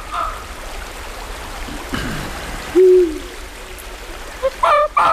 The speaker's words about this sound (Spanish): están los búhos reales que escuchamos el otro día en Badajoz, ululando o haciendo lo que hagan los búhos